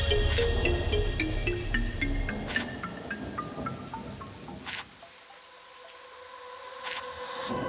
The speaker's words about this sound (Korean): 이 빗소리가 더 잘 들릴 수 있으니까 yeah. 창문 잠깐 열어놔둬. 주말에 빗소리가 우릴 더 적게 하니까 yeah.